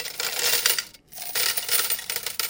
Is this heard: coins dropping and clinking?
yes